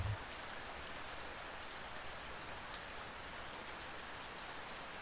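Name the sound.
rain falling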